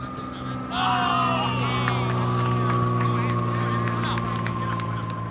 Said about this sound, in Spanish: No paran de pasar aviones sobre este campo de entrenamiento. Está ubicado en una zona de Nueva York que tiene varios aeropuertos cerca, y el entrenamiento de la selección no tiene pajaritos de fondo, no tiene un ambiente bucólico como en Chattanooga.